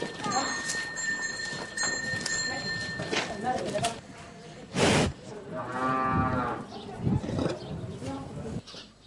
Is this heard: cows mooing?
yes